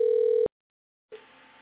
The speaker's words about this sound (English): Two ringing bells. In the woods, you know, they don't know how to answer their phone on the first ring, you know.